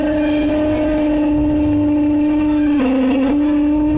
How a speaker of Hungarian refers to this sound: Három deszis kólás doboz, tolja egy tollal az asztalon. Mutatom, hogy ennek milyen hangja van.